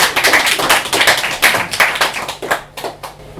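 A crowd applauds with dense, overlapping claps that hold steady for a few seconds, then thin out into scattered individual claps as it fades toward the end.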